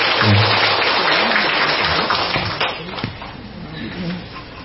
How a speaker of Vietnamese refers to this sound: Xin đại chúng chúng ta một cho một tràng pháo tay để chúng ta cùng đón.